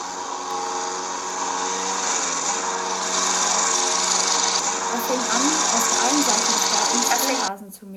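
A lawnmower engine, started by a man in a garden, drones loudly and steadily, its buzzing motor holding an even pitch for several seconds before abruptly cutting off near the end.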